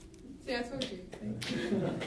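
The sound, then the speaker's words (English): An audience claps and cheers to vote for the first storyteller in an improv storytelling championship, a busy wash of hands mixed with excited voices that starts after a brief pause and swells louder toward the end. “Make some noise if you think it was our first storyteller”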